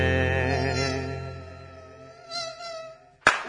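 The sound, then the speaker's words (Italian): A droning mosquito buzz holds steady for several seconds, wavers and fades slightly, then a brief sharp burst of noise cuts in at the end. “Ma che fastidio, che fatica sopportare di notte le zanzare.”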